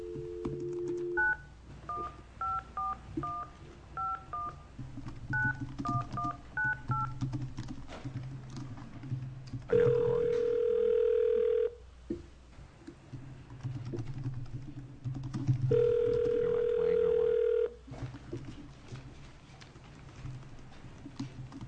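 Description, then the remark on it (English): A quick run of telephone keypad beeps, a dozen or so dual tones, as a phone call is placed to take testimony by phone at a Senate Judiciary Committee hearing at the Capitol, followed by two long, steady phone tones a few seconds apart, with a brief murmur of speech and background noise underneath. “Our next person is going to be by phone.”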